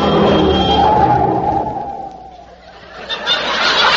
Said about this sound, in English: Willie, get out of the road. A car's coming.